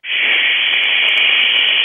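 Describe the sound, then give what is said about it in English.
A loud, steady shushing sound, a voice imitating white noise with a hissing rush held continuously for about two seconds, with no other sounds, made to send love with white noise. “Okay, send love with white noise.”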